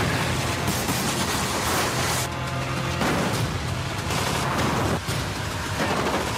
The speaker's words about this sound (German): Zumindest ganz schön wach macht der. Und es geht immer so weiter. 2 Minuten, allerhöchste Blockbuster-Energie, Explosion, schnelle Autos und viele Zombies.